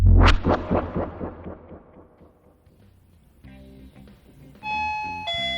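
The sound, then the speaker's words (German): A doorbell rings for a pizza delivery, with a loud opening chime that pulses and fades over a couple of seconds, then gives way to steady, buzzy electronic tones that swell louder near the end. No voices. “Pizza, macht mal bitte jemand auf.”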